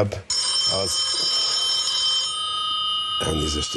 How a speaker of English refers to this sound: During his 5 minutes, in the middle of his speech, he got a call on his cell phone.